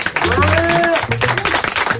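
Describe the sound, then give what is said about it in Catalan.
A burst of studio audience applause, dense and steady for about two seconds, with voices calling out and talking over the clapping. “Aplaudeixin ja que no estaven atents.”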